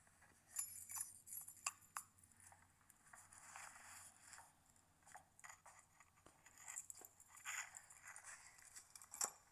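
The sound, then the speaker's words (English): Keys are dropped and jingle and clatter onto a hard floor in an empty new home, a scatter of short metallic clicks and rattles spread across the moment, fairly quiet against a faint hiss, with no voices. “As I drop my keys on the floor.”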